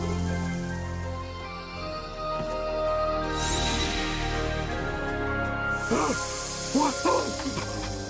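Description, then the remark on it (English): A person imitates a snake, producing drawn-out, breathy hisses with a few short voiced sounds mixed in, fairly loud over a steady tonal background. “I can talk to snakes!”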